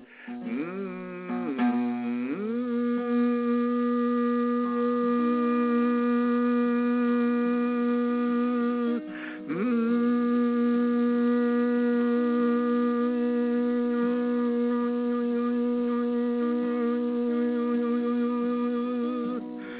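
A voice hums a long, steady note on the pitch B, moving back and forth between M and N sounds, starting with a brief wavering slide, pausing for a breath midway, then holding the tone evenly with no words.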